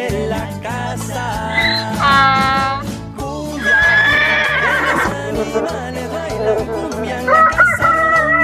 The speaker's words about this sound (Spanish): Hola gallo, buenos días. Y el gallo está pidiendo que llegue ella. El gallo con su kikiriki diáfano.